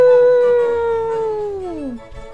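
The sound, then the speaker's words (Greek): A person wearing a wolf fur, standing at a window at night, imitates a wolf howl: one long, loud sustained note that holds steady, then slides downward and fades out near the end, with no other sounds around it. “Φόρεσε τη λυκύσια γούνα του, στάθηκε μπροστά στο παράθυρο και βάλθηκε να κάνει το λύκο. Αού!”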